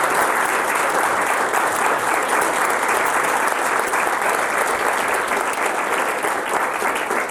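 Sustained applause from an audience, a dense, steady clatter of many hands clapping at an even loudness for several seconds, with no voices standing out, showing appreciation for a speaker who taught the group over the weekend.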